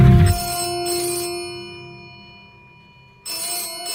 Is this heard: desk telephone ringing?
yes